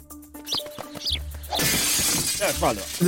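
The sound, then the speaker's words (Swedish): A bedroom window's glass shatters as a bird crashes into it, with a sudden loud crash halfway through, followed by a sustained bright hiss of falling, tinkling shards, after a few quieter knocks and tones before the break. “Den tog det att ha brutit nacken innan fönstret krossades.”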